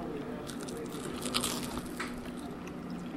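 A crisp bite into a fried chicken gizzard from Joe's Gizzard City, followed by a few soft crunches and moist chewing sounds over a faint steady hum, with no talking.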